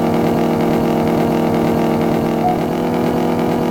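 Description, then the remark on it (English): A steady, loud engine drone runs continuously with a buzzing, slightly pulsing mechanical tone of a car in an online video game race, with no talking. “I will never use this car again.”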